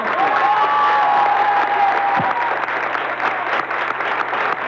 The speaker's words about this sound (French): Nous allons avoir maintenant vos applaudissements tout d'abord pour le premier candidat